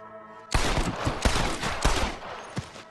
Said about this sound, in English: Oh my good God! Over there, I can hear more gunshots. Quick, let's go help my deputies.